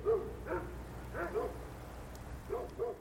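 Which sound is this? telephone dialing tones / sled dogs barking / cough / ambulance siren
sled dogs barking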